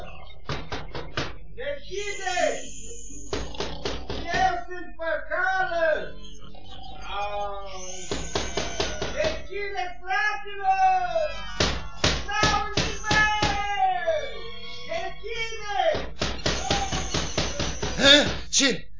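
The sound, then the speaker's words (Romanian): Repeated knocking on a wooden door near midnight, by Păcală at his brothers' locked door, comes in several quick bursts of sharp raps, loud, spaced a few seconds apart, over continuous wavering voice-like sounds in the background. “Frate meu, bate cineva în ușă.”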